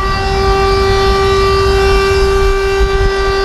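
A steady siren holds one sustained tone with bright harmonics, loud and unbroken throughout, over a low rumbling background and no voices, sounding at 11 o'clock at a prison during a national tribute, after a minute of silence.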